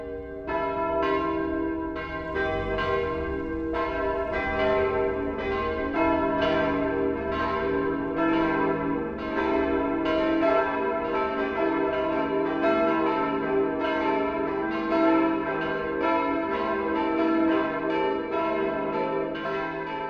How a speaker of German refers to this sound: Das Mittagsläuten kommt heute von der katholischen Pfarrkirche St. Stephanus in Stammham bei Ingolstadt.